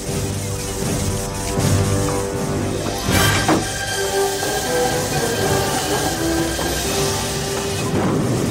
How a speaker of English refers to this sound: Okay, all right, so you hear the train taking off. We don't know where Doc's going. Is he going to go into the future or the past? It's left open.